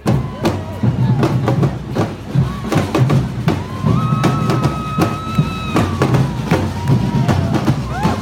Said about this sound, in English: I'd seen a zillion protests in DC before, but none like this. The whole city was alive with demonstrators. They were everywhere.